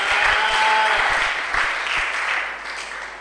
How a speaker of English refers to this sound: Can you clap?